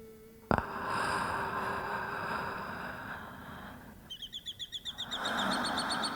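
A bird outside a prison window chirps in a quick series of bright, repeated notes, after a sharp knock and over a steady low rumble of background noise.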